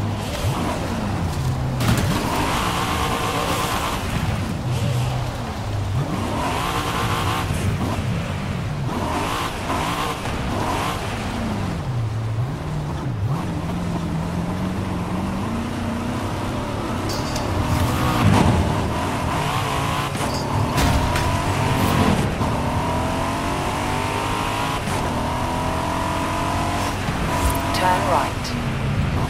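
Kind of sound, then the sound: vehicle, car driving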